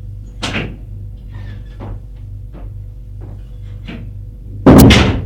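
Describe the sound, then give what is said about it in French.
A door opens: a few soft latch and handle clicks, then a loud burst as it swings, all over a steady low background hum with no one talking. “Il l'embrasse sur les lèvres et ouvre la porte.”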